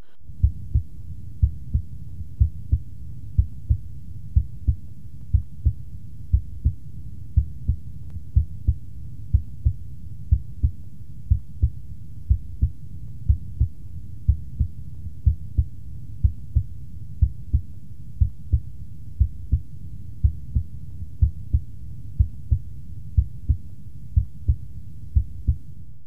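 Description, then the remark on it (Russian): A steady heartbeat heard through a stethoscope at the tricuspid valve auscultation point, low muffled lub-dub pairs repeating at a regular resting rhythm, the first sound of each pair louder, with a soft hum underneath and no voices. “Аускультативная картина здесь близка определяемой на верхушке, однако громкость тонов несколько меньше. Обратите внимание на преобладание громкости первого тона.”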